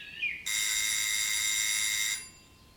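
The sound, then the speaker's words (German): A doorbell gives one long, steady electric ring, bright and buzzing, lasting nearly two seconds after a brief chirp, then cuts off abruptly into quiet. No one speaks. “Gerade jetzt klingelt es an der Tür.”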